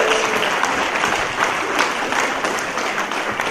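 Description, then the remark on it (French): Steady applause from a church audience during a sermon, many hands clapping in a dense, continuous wash of sound that stays loud and even throughout, with no voices standing out. “Est-ce que quelqu'un peut donner une main d'acclamation?”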